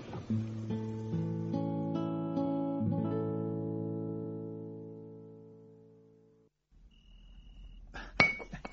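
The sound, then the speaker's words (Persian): A glass pickle jar filled with fuel oil clinks several times in quick succession as it is handled, its bright ringing tones lingering and slowly fading, followed by a short pause and one more sharp clink near the end. “کفی دستم که نمیتونم بریزم چیک چیک برات بیارم، ریختم تو شیشه ترشی.”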